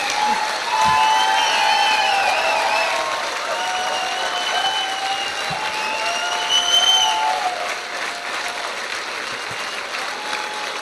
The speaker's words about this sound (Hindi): Sir इतने जोर से और जोर से ऊपर आवाज दी आ रही है। सर तालियां बंद नहीं होनी चाहिए।